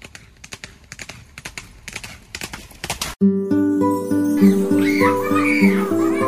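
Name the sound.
horse hooves clip-clopping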